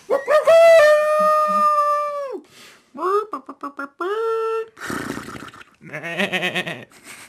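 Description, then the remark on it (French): A person imitates a dog howling as one of several animal noises for a show's opening credits: one long drawn-out wavering howl, then a string of shorter yelping calls and rougher, bleat-like vocal noises, all fairly loud. “pourrait faire des bruits d'animaux aussi dans le générique. Miaou. Mmh. Un chien, un cochon.”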